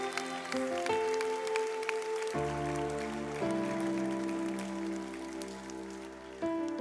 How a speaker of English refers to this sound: Come on, yeah, give him a round of applause. Is there any more?